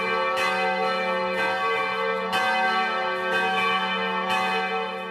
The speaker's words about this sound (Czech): U znak vaskršnje radosti na svim pravoslavnim hramovima tačno u ponoć zazvonila su zvona najavljujući dolazak najvećeg hrišćanskog praznika.